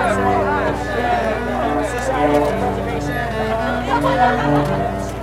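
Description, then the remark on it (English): A crowd of hundreds chattering outdoors at a monument in Richmond as a crane and crew take down its statue, many overlapping voices blending into a steady, dense hubbub that stays fairly loud and even throughout, with no single speaker standing out. “The crowd swelled to the hundreds”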